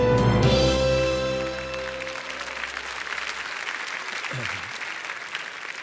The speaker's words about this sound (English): Why are you clapping? To clap after that is senseless.